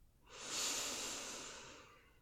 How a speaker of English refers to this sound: Relax. I can hear how your breathing just changed. It's okay. Calm.